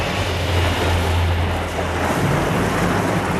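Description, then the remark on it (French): Steady, loud rushing wind with a broad roaring hiss, like a storm gusting, with a low rumble underneath and no voices. “L'orage, on l'entend dans le ciel qui souffle dès que le vent soufflera.”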